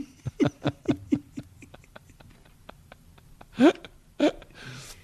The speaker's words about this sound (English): Intergalactic belch. My super burp powers. Super burp.